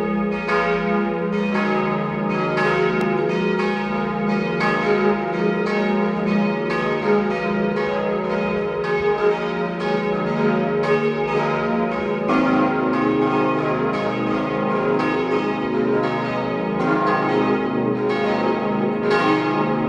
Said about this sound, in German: Es ist 12 Uhr. Sie hören die Glocken der Pfarrkirche Kirchdorf an der Krems in Oberösterreich.